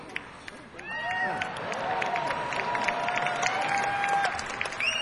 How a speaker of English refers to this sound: The t-shirt got more applause than the last song.